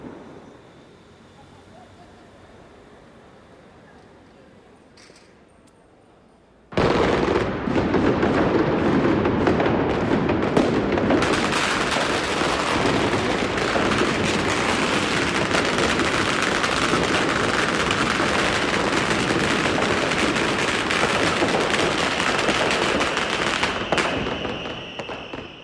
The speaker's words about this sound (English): So I'm on the Huanghe Road now, and there's the occasional rocket going off, and I can hear stuff rumbling in the distance, but there's not a lot going on along here.